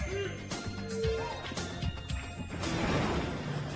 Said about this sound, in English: Hear that? Stampede's coming. Here we go.